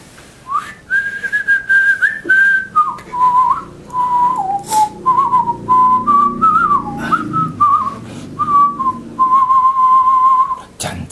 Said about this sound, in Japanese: 歌歌ってんやろ、口笛吹いてやってみーな。